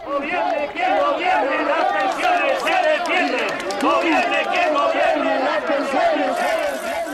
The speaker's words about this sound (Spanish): Según todos los expertos, el sistema actual es insostenible, mientras el eco de las manifestaciones suenan en la calle.